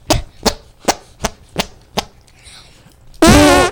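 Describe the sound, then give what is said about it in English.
Six quick, evenly spaced slaps or squelches lead into a loud, buzzy, sputtering arm fart made by a 9-year-old boy from Pompano Beach with his hand and armpit, on top of and under the arm, at an arm fart contest. There is no talking. “He also did a fart using his arm on the top of the arm and under the arm.”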